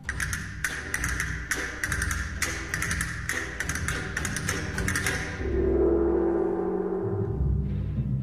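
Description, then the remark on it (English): Rapid bursts of crisp castanet clicks rattle in rhythmic clusters for several seconds, then a gong strikes and its deep, shimmering tone swells and lingers to the end, over soft orchestral accompaniment, as the orchestra's percussion instruments are presented one by one. “Castanets and gong.”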